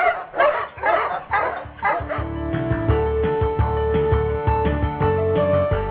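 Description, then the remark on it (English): Several sled huskies bark and yip in a quick, excited burst of overlapping calls for about two seconds, then give way to a sustained, tonal musical jingle. “Must you Huskies? Gee-haw!”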